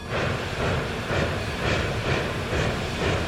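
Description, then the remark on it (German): A train rumbles steadily with broad low-end noise and a rhythmic pulsing roughly every half second, like wheels passing rail joints, with hissing on top, continuous, no voices; at platform 1 of Anhalter Bahnhof in Berlin in the early 1930s, where train L20 to Basel departs at 12:30. “Wir befinden uns auf Gleis 1 des Anhalter Bahnhofs. Um 12.30 Uhr wird der Zug L20 nach Basel losfahren.”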